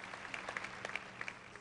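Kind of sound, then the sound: crowd, weak audience applause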